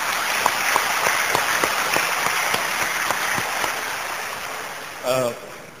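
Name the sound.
audience applauding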